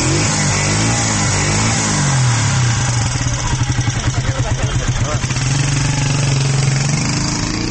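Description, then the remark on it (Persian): A motorcycle engine of a young hobby rider in Afghanistan runs loud, its steady drone breaking into a rapid, throbbing rev midway before settling back to an even hum. “این افغانستان جایگاهی نداشته، اما شماری از جوانان به شکل غیر حرفه‌ای و از روی شوق علاقمندیشون موتورسیکل سواری میکنند و ایده هم به خاطر سهولت های کاریشان.”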